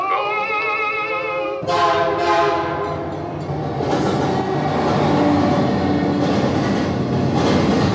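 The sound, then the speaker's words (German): A wavering operatic voice from an old record plays in a hut beside a railway track for a moment before a loud approaching train roars in, its rumble and rattling wheels swallowing the music completely. “Das Opernerlebnis wird schließlich vom nahenden Zug verschlungen.”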